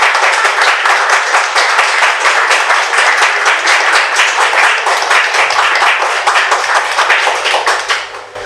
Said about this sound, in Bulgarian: Моля за вашите аплодисменти.